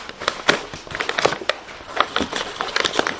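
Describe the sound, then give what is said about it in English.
Paper being crumpled and squeezed tight each time to make a checkered piece of paper for a children's arts and crafts project, a steady run of crisp, crackling crunches with irregular bursts and sharp snaps, fairly loud, with no voices. “Now you squeeze nice and tight each time.”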